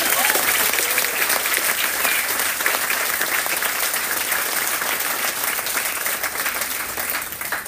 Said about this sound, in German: Das ist ein Applaus wert, würde ich sagen.